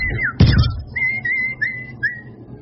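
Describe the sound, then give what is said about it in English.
A small bird twitters outside Big City Hospital while the wind blows, in a series of short, high, whistled chirps with slight pitch bends. The chirps are steady and fairly clear, after a brief rushing burst of noise near the start. “The winds have been blowing a bit outside of Big City Hospital, and the occasional twitter of a little bird is heard.”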